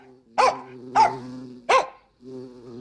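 Skipper the dog barks three times in a steady rhythm, each bark short and sharp, while a continuous low buzzing hum, like an insect, drones underneath and carries on after the barks stop.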